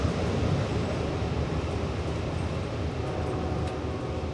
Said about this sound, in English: Liana Fink on the Long Island Railroad.